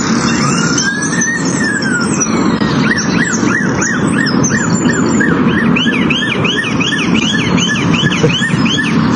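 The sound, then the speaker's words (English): A bird mimics a two-tone police siren, repeating quick, high-pitched rising and falling whoops in a steady rhythm over a constant outdoor background rumble. “a bird's impression of a police siren was so accurate that it left officers believing their cars were faulty”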